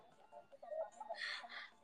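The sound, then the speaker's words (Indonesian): A chicken clucks in a short run of choppy, squawky bursts that rise into a brighter, louder cackle toward the end, with nothing else going on, heard as background sound in a chicken video game stream. “Ini terus ada background ayam petok-petok tuh.”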